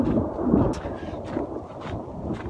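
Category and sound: nature, thunder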